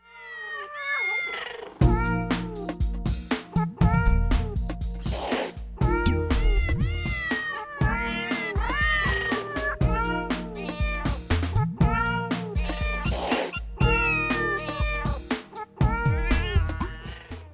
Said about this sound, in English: is that the Christmas song with the cats? No, but it's from the similar group.